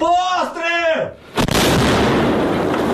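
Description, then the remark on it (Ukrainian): A shouted voice rings out, then an Akatsiya self-propelled howitzer, worked by its artillery crew on the Kharkiv front in Ukraine, fires one loud shot whose booming blast rolls into a long, roaring rumble that fills the rest of the moment. “Постріл!”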